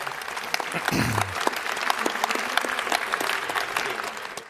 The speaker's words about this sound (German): Herzlich willkommen, Wolfgang Schüssel. Bitte mal einen Applaus.